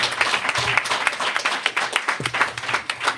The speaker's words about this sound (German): Ein Applaus würde ich sagen für die drei sehr, sehr, sehr interessanten Filmpitches.